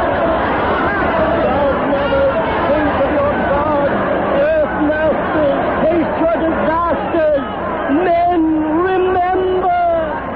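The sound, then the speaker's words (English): A dense crowd of many voices, a mob crazy with terror, clamors and shouts over one another, loud and unbroken, with raised, strained cries rising out of the agitated babble throughout. “We can't move for the mob. They're crazy with terror.”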